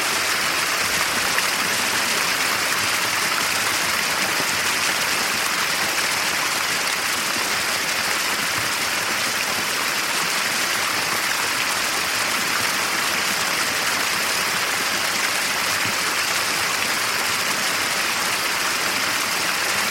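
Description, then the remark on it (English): A waterfall roars without a break, a dense, hissing rush of water where streams meet at the lip of a high precipice and drop about 500 feet. It holds steady and loud throughout, with no voices or other sounds over it. “It lies like a broad leaf veined with watercourses that converge on the lip of the precipice to drop down in a cataract for 500 feet.”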